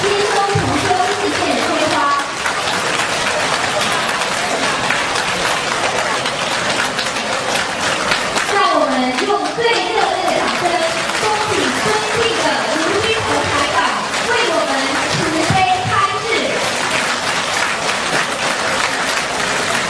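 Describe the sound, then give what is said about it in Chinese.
A large audience applauds steadily and loudly to welcome Lu Junhong as he is invited to give a Buddhist teaching, a dense wash of clapping, with voices audible over it partway through. “让我们用掌声恭请卢军宏台长”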